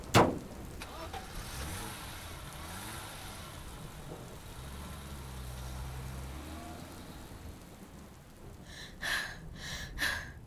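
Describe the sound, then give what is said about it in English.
A car drives along with a steady, low engine rumble that swells slightly midway, opened by a sharp thump and closed by two bright, brief bursts of noise near the end. “Get the car.”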